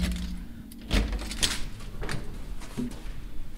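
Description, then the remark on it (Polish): The first door of a mechanical puppet theatre installation slides heavily and thuds shut, with a few clattering knocks and a low rumble of machinery underneath, then a quieter settling noise at the end. “Uwaga, zamykamy.”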